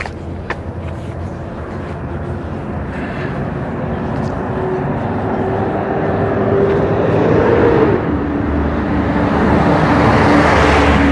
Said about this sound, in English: Driving the hell out of that truck, picking up debris. It looked like it's a bunch of branches and stuff, and it's full of branches. It's been cut down.